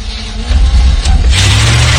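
A car engine is started by a driver leaving a station on a cold, foggy winter morning; it turns over and catches, settling into a loud, steady low rumble. No voices are heard.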